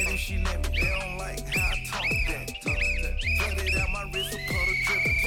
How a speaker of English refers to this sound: Hey, man, you don't blow no whistle in my gym.